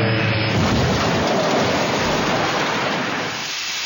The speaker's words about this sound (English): There was drama in the skies of Quahog today as a transnational 767 was forced to make a crash landing.